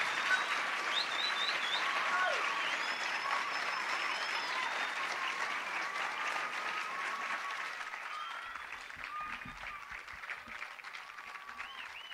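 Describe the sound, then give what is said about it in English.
An audience applauds performers steadily, dense clapping that holds at a fairly even level for several seconds before thinning slightly toward the end, with a few faint voices mixed in. “Let's just have one more little round of applause for these folks.”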